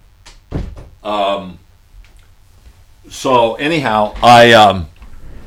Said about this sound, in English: Okay, I'm back. I have to go close the door. So hang on a second, folks.